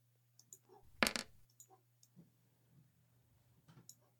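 Dice, a hit die rolled for a short rest in a tabletop role-playing game, clatter on a hard surface in a short, dense rattle, followed by a few scattered light clicks and taps as they settle, over a low steady hum.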